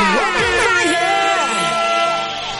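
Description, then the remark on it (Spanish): A loud, sustained air horn blast blares for a couple of seconds, its steady brassy tone holding throughout while excited voices shout over it. “Y dale a la bocina, dale a la bocina.”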